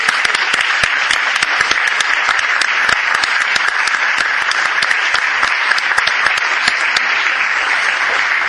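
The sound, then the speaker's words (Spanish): A crowd claps steadily for several seconds, a dense, even patter of many hands with sharp individual claps popping out, sustained at a fairly loud level without voices. “Incluso un aplauso como apunta.”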